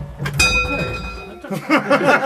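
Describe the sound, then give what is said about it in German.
A clock bell strikes once to mark the full hour, its bright ringing tone hanging and slowly fading for about a second before people start talking over the tail. “Und das war die Uhr in der Nähe.”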